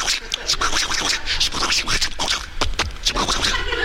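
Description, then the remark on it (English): Pencil scribbling on a scratch pad as Victor Frankenstein writes the last of his notes in a castle: a continuous run of quick, irregular scratchy strokes with a bright, papery hiss, fairly loud and steady throughout, no voices. “He's scribbling away at the last of his notes. Scratch pad.”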